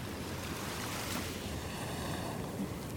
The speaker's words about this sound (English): I can take a long view, I can rest my eyes on that vanishing point where the North Sea meets the sky and just stand and soak up the ambient sounds of seawash.